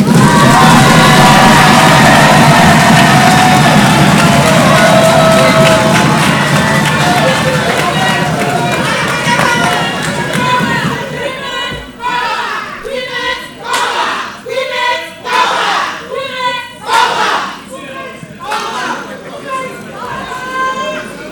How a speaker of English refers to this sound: may I respectfully ask that we give an even louder applause to the Honorable Nabo